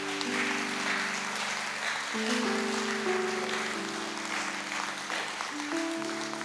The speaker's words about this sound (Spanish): Dale un aplauso al Señor en esta noche.